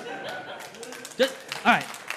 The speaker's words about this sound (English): So thank you, women. Yeah, you can clap that.